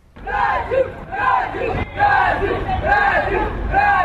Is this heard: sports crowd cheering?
yes